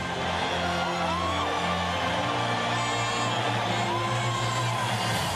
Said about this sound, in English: Veteran stadium crowd, most of whom were too young to have seen Van Buren play, gave him a standing ovation. It was a fitting tribute to the man who carried the Eagles to their first two world championships.